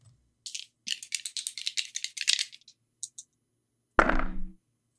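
Red dice rattle in a cup or hand with a quick series of clicky, bright clacks, then tumble out onto a hard surface with a louder clattering thud that settles within half a second.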